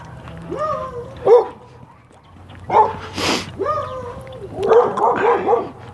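A dog lets out a series of excited barks and high yips, coming in short bursts with whiny, drawn-out tones between them, fairly loud.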